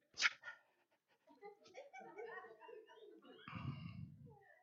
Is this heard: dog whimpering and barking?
yes